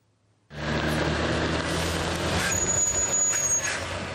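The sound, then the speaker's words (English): A heavy truck carrying charitable aid donations collected in Hungary, at the Ukrainian border, starts its engine abruptly and rumbles steadily, with a broad hiss of air and a thin high-pitched whine rising midway through; no one speaks. “Trucks carrying the charitable donations collected in Hungary got stuck on the Ukrainian border for 2 hours.”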